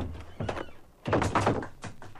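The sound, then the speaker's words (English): Several heavy thumps and knocks of doors opening, closing and slamming, with a loud burst of banging in the middle and lighter clunks before and after, with no talking. “And then the doors opening and closing. And sometimes slamming.”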